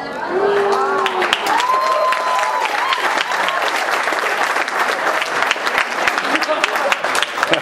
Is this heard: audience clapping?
yes